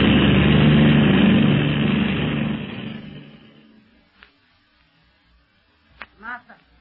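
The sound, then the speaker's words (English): A loud, steady airplane engine drone fills the first few seconds, then fades away into near silence, followed by a couple of brief voice fragments; the plane is in the air, not landing but climbing higher. “Where is the plane of the secret police now, Zabul? Still in the air.”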